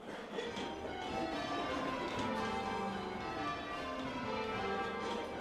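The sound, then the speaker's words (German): Church bells ringing changes, each bell swung a full circle by a hand-pulled rope, a dense, continuous overlapping peal of many bells striking in quick succession, loud and steady throughout with no voices. “Cambridge Surprise Royal oder Stedman's Triples heißen die Abfolgen.”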